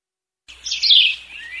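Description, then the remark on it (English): After a brief silence, birds chirp and sing in a bright, high, warbling burst that swells and then carries on steadily. No one speaks. “Okay, the birds and Howard back.”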